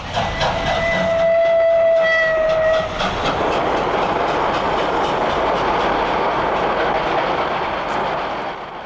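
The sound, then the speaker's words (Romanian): A train pulled by an electric locomotive rolls past, its horn blaring a steady tone for about three seconds before giving way to a loud, continuous rumble and rattling of wheels on the rails. “Ce mică, frate, asta e locomotivă electrică.”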